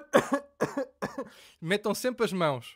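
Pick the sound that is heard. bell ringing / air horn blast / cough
cough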